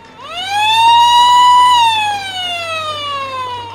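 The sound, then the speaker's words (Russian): A loud alarm siren, set off when someone carrying a pot to the galley stepped on a tiny signal wire, wails alone, its pitch rising sharply, holding a steady high tone, then gliding slowly downward, with rich harmonics and a faint low hum underneath. “Понимаете, шел наш Кошкин на камбуз и наступил ногой на проволочку. Ну, понятно. Проволочка сигнальная, малюсенькая, да, ее не видно.”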